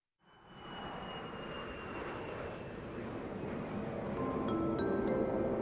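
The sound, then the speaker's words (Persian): A passenger jet of the Islamic Republic of Iran airline, flight 732 from Paris, lands; its engines roar steadily and swell slightly louder over several seconds, a broad rushing noise with a thin high whine on top, heard on its own with no voices. “پرواز شماره 732 هواپیمایی جمهوری اسلامی از پاریس به زمین نشست.”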